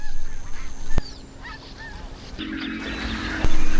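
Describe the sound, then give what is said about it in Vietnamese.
Several mother birds flying back to the nest in small groups after hunting in the late afternoon give honking, goose-like calls in short bursts, over a steady background hum with a couple of sharp clicks; no one speaks. “Chim mẹ đang bay về tổ sau khi săn mồi vào chiều muộn.”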